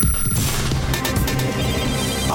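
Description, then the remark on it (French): A telephone rings loudly and steadily for a couple of seconds before the Africa Radio answering machine picks up, its electronic tone sitting over a dense, continuous wash of sound with no voices. “Mais d'abord, comme de tradition, on se tourne sans plus tarder vers le répondeur d'Africa Radio pour écouter vos messages.”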